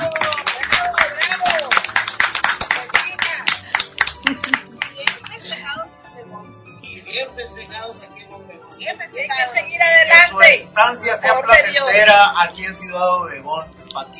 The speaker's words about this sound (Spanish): Un aplauso por los primeros 11 años.